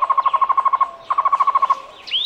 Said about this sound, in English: The Cuban trogon is a medium-sized bird often found in pairs. Its song sounds like its Spanish name, tocororo. It lives in the woodlands of Cuba and likes to sit still, except when feeding on flowers and fruits.